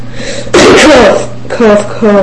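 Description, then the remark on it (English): A harsh cough bursts out loudly, followed by a couple of shorter, voiced throat-clearing grunts, with a low steady hum underneath. “Cough.”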